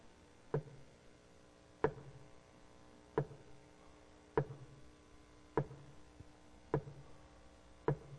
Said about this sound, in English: Honey, yeah? What's that noise? Is that the shower leaking? I don't hear it.